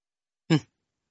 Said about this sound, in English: Hold on one second. Cough.